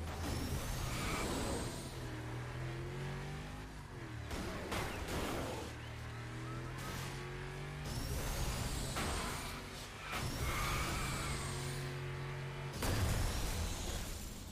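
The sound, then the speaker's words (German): Racing video game: engine roar runs continuously as the player's car rams into traffic cars from behind and the sides, sending them flying, broken by loud crunching metal impacts and bursts of collision noise near 4, 8, 10 and 13 seconds, with hissing air-brake-like sounds. “Du kannst ja bei Burnout Revenge die Autos von hinten ruhig reinfahren, ne? Allen Seiten reinfahren. Hauptsache, sie fliegen weg.”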